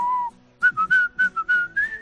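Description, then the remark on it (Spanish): A person whistles a short, clear tune: one held note, a brief pause, then a quick run of six or seven bright pitched notes in steady rhythm, alone, in a radio advertisement for Eurocaja Rural pension plans. “Silbar. Modular sonidos al compás de la tranquilidad que te produce tener asegurado tu futuro.”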